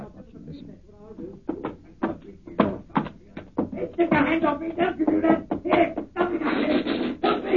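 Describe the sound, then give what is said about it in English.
Repeated heavy thuds of people barging their shoulders against a locked door, coming in rapid, uneven bursts that grow louder and more frantic, with strained voices mixed in. “Open the door. Well, it's locked. Never mind that. Get your shoulders into me.”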